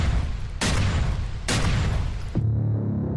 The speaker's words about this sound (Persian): تپانچه خود را بیرون کشید و با شلیک 3 مرمی هر 3 نفر از پا انداخت.